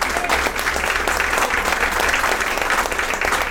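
Sustained audience applause, a dense wash of many hands clapping at a steady, loud level for the full few seconds, with no voices standing out above it.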